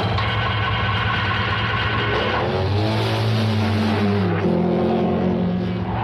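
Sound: car engine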